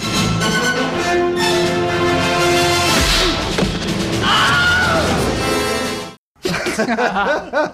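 A loud, dramatic scene from Batman Returns: orchestral music swells as a thug thrown off a roof by Batman lets out the Wilhelm scream, a sharp, wavering scream while falling, followed by a brief cutoff and a burst of busy sound effects.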